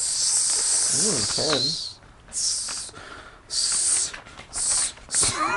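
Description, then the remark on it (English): A series of sharp, airy snake hisses in about five quick bursts, loud, with a brief wavering vocal tone under the first hiss, likely a voice imitating the snake; the snake leans forward, hissing right at someone's face. “The snake leans forward, hissing right at your face.”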